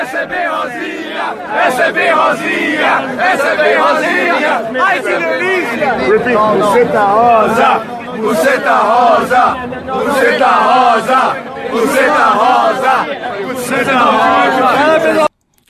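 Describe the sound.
A large crowd of Brazilian football fans chants loudly in unison, taunting a Russian woman with a crude Portuguese chant, many voices blending into a continuous, rhythmic roar with repeated shouted phrases and bursts of cheering throughout.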